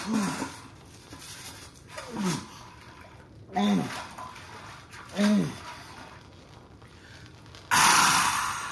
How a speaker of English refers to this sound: Water. Drops of water in bucket on ground next to him.